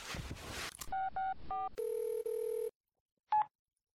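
A brief rustle, then three quick keypad beeps of a phone dialing a younger brother's old phone number, followed by a steady electronic ringback tone, a pause, and one short beep as the call connects.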